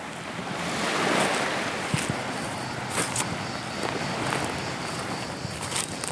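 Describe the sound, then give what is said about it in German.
Soft crunching footsteps on sand move steadily away as someone walks from the beach through the town of Niamaki, partly buried under a constant wash of surf and gusty wind blowing across the microphone. “So, ich gehe jetzt vom Strand aus durch die Stadt, durch Niamaki.”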